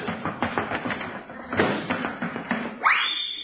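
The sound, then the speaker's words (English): Someone sliding down a banister: a quick run of soft taps and bumps, a heavier thump about halfway through, then a rising whistle-like sweep at the end, with no one talking. “I'll slide down the banister and then they won't hear me.”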